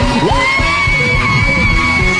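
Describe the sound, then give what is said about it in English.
A loud, dense wall of crowd noise: many voices screaming and cheering at once, with a rising whoop near the start and a steady roar that never lets up. “Let me hear you scream.”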